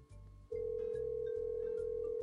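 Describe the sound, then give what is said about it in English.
An outgoing phone call's ringing tone: a steady mid-pitched electronic tone switches on after a brief moment and holds without a break, over a low, pulsing hum, with no voices. “It's just ringing.”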